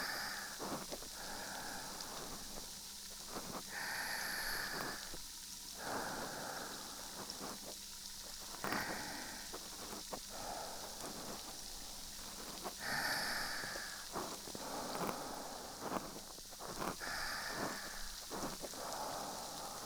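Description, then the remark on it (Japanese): Carbonated soda fizzes steadily, a dense crackling hiss of tiny popping bubbles with scattered louder bursts and sharp clicks throughout, no voices. “炭酸、耳から垂れちゃってる。”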